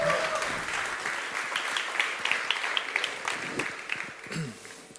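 An audience applauds steadily, a dense wash of many hands clapping at a fairly even level for several seconds, with a few louder individual claps standing out near the end.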